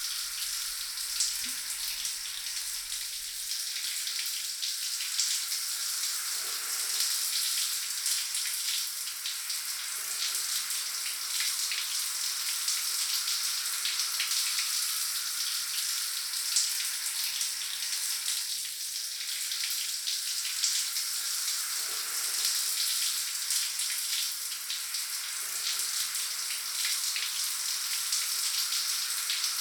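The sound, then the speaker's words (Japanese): Steady stream of hot running water pours and splashes continuously for about thirty seconds as hair is wetted before shampooing, a bright hissing spray with faint shifts in the flow, no voices. “最初にお湯でしっかり濡らすのが大事なんだそうです。”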